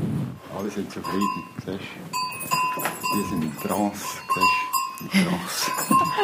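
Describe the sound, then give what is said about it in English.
Goats bleat repeatedly inside a barn that also houses sheep, several overlapping calls, while clear bell tones ring steadily through the busy, continuous animal noise. “points out that the mood is very relaxed in his barn, which also houses goats and sheep.”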